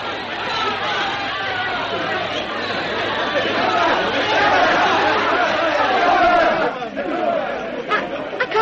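crowd, large crowd chattering

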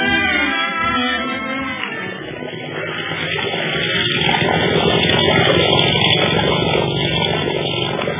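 vehicle, propeller aircraft engine running

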